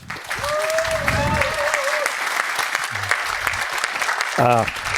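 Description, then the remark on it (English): Steady applause from an audience welcoming a talk fills all five seconds, a dense rattle of many clapping hands, with a few brief voices and whistle-like tones rising above it. “Please have a nice applause for the talk.”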